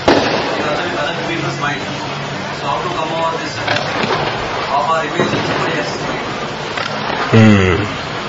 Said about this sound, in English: Can you speak loudly? Because there are many firecrackers in the back.